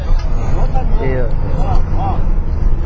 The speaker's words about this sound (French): Ok, alors là on est dans le bus pour Bézissara. En fait, comment ça marche? Ben, le bus est parti de la gare routière.